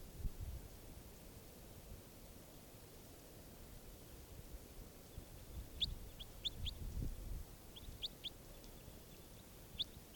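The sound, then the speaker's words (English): Short, high-pitched calls from the bird labelled 587 repeat in quick bursts of two or three notes, sounding at intervals over a steady background hiss with low rumbling. “This bird 587 again.”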